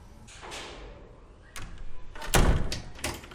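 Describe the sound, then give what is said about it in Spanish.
Several metallic clicks and clacks as the bolts of a door are slid back, followed by a heavier thud and creak of the door being pulled open, with no voices. “Quita los pestillos y abre.”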